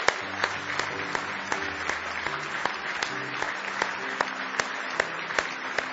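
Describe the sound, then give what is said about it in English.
An audience claps steadily for several seconds in praise of Jesus during a morning church service, a dense, continuous patter of many hands with a few sharper claps standing out, faint murmuring voices and low tones underneath. “Now give Jesus a big hand clap of praise this morning.”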